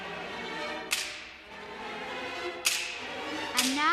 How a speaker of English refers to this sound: And finally, the whip.